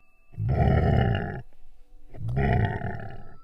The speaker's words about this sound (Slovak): Z dvora sa zrazu ozval hlasný rev.